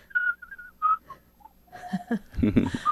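A person whistles a slow, gentle melody of several sustained notes, clear, before louder, rougher sounds take over in the second half.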